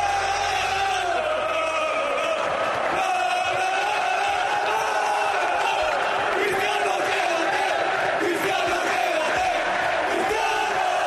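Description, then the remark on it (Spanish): A huge crowd of Real Madrid supporters at the celebration at the Bernabéu chants a sustained, drawn-out cry about Cristiano Ronaldo in unison, a dense roar of thousands of voices holding steady and loud for the whole stretch with slight swells in the middle. “Ese es el grito del madridismo, por lo menos el último que tenemos después de lo que ocurrió en la fiesta del Bernabéu.”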